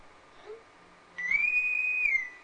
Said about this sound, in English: It's the bosun's whistle from Star Trek.